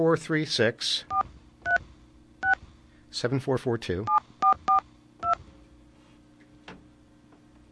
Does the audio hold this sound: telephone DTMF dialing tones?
yes